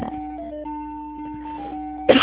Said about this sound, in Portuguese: Ai, por que eu tô tossindo assim?